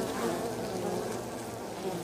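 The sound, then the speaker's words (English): A steady buzzing of bees hums continuously, a dense droning swarm with no pauses and no voices over it. “I'm Gareth Richard, and I love bees.”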